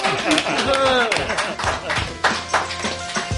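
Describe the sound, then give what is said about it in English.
Scattered clapping from an audience at a show's sign-off, sharp irregular claps overlapping with voices and some laughter-like vocal sounds throughout. “Clap, you Philistines.”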